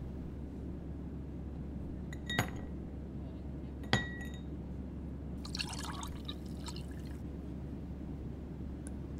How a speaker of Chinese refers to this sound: 冰块给您加好了，请您慢用。